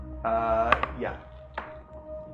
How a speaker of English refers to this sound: Great, roll a d20. Boom.